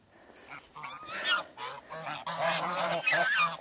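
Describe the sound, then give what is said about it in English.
A flock of about six crossbred geese, white apart from one brownish bird, honk loudly and continuously while being fed bits of bread, their overlapping nasal calls forming a busy, clamorous chorus. “They're going to come running over now at me. They're going to be noisy.”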